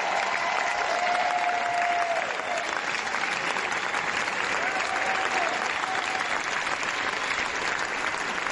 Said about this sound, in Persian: با اونها 12 دقیقه عوامل این فیلم رو در کاخ جشنواره کن تشویق کردن.